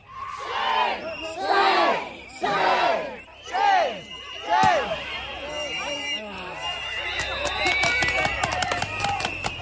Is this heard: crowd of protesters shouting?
yes